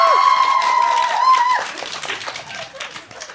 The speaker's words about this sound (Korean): 자, 여기서 한번 우리 방청객들의 환호성을 통해서 얼마나 오셨나 감 좀 잡아볼까요?